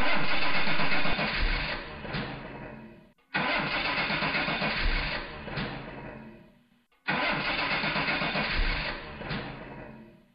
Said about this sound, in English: After four attempts, the engine of LJP's Corolla finally fired up.